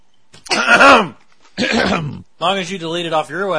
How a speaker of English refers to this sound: Clear your throat.